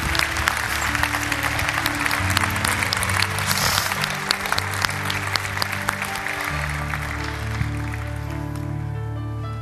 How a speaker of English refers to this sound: If I could clap for you, I would, but since I can't, they'll clap for you as you go.